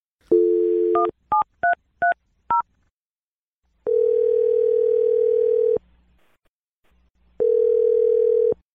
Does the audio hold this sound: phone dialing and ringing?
yes